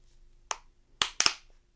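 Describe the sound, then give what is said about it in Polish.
A plastic cup, left behind by someone and picked up as an improvised instrument, is handled, giving four sharp, bright clicks and crinkly taps at an uneven pace, the last two in quick succession, with no voices. “Tu ktoś zostawił plastikowy pojemnik.”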